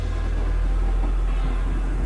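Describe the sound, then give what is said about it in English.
A deep, continuous thunder rumble from a song rolls steadily for a couple of seconds, heavy in the low end with little variation in loudness and no voices. “I'd be so freaked out if I heard thunder in the sky look like this.”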